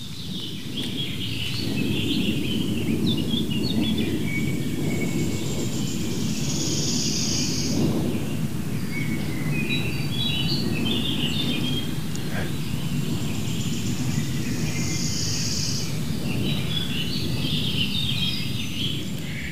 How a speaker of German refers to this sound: Ja, ist doch immer wieder schön, wenn so ein Flugzeug oben rüberfliegt, dann wissen wir gleich, Donnervogel, den können wir alle bestimmen. Eine große Maschine.